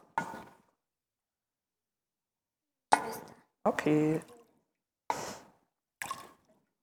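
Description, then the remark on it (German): Water splashes into cups in several short pours separated by pauses as it is shared and tipped back and forth between cups, one longer pour ringing with a rising tone as the cup fills. “wenn ihr es so zu den anderen kippt und einander irgendwie zusprecht”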